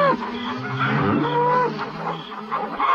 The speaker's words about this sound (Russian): И теперь они громко и требовательно мычали.